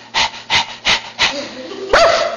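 A dog barks four times in a quick, even rhythm, close and fairly loud, then lets out a higher, whining yelp at the end.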